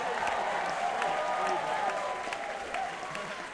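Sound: audience applause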